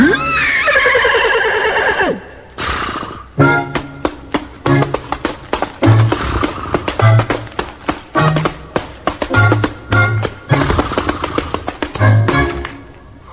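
Henry the horse whinnies briefly, then keeps time with its hooves, clopping out a steady, bouncy rhythm of loud taps over a light musical backing that carries on to the end.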